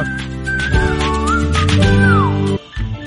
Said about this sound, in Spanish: Es que no sé silbar mucho, no me estén molestando también. A ver, ustedes me van a evaluar en esta.